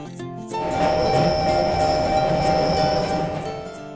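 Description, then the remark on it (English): A subway train runs steadily, its rumble swelling in after a moment and holding loud with a high electric whine and faint metallic clinks, then easing slightly at the end. “I go to school by subway.”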